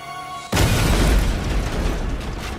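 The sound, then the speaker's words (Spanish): A sudden loud blast of a parcel bomb opened by Thomas Moser at his home north of Caldwell erupts after a faint electrical hum, then a heavy rumbling roar and debris noise linger without fading much. No voices are heard. “La explosión fue la más espantosa hasta entonces.”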